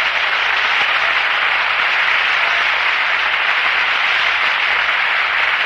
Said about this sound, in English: Begin at my sanctuary. Clap your hands again.